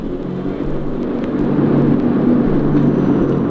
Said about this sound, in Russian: Пошел на взлет наш самолет. Мелькнул огромный рыбьей тенью, убрал шасси второй пилот.